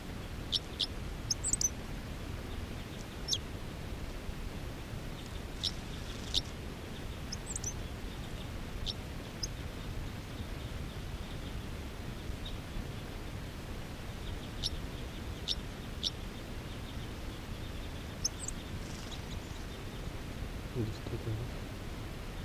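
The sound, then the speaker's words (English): Short, high-pitched song phrases from a wild male bird come in scattered bursts over a steady, rushing background noise, with brief thin chirps every few seconds as other wild birds call. “Third recording is a wild male who just gave a song phrase.”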